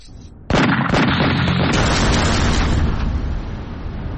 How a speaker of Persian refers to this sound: پس لحظه‌های انفجار مهیبی که به کشته شدن حسن نصرالله رهبر گروه حزب الله لبنان انجامید همچنان در ایران حس می‌شود.